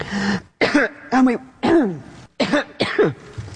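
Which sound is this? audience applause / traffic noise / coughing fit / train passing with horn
coughing fit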